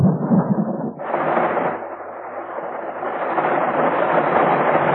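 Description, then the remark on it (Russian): A tropical thunderstorm downpour over the Amazon rainforest: deep rumbling thunder opens, then heavy rain surges in abruptly and continues as a loud, dense, steady roar of water. “И действительно, вскоре тропический ливень обрушивается на сельву.”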